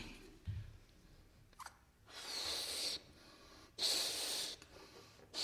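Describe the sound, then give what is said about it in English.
Two long, hissing breaths are blown forcefully into a balloon, each lasting about a second, separated by short pauses and quieter inhalations, with no talking. “Now, hang on. I might run out of breath here.”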